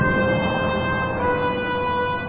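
Seven priests blowing horns in front of the Ark of the Covenant, a loud, sustained, steady note with a rich brassy tone and layered overtones, holding without a break and with no voices present.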